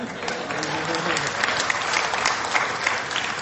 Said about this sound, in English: You can clap to that.